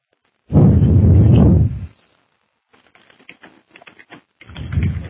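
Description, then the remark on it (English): Typing on a computer keyboard: a run of quick, irregular key clicks, framed by louder low thumps and rustling handling noise before and after. No one speaks. “I'm trying to read while I'm typing, while I'm speaking, so it makes my speech rather broken here.”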